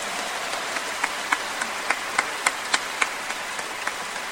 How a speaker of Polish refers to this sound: Oklaski. Mocno.